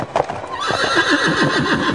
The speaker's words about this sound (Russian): А спустя еще час услышишь: содрогнутся небеса, земля начнет ходить ходуном, послышится топот копыт, громкий, как раскаты грома.